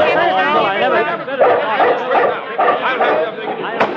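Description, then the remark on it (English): A dog barks at night in a rapid string of loud yaps, mixed in with a busy jumble of chattering voices throughout. “this dog looks so big at night.”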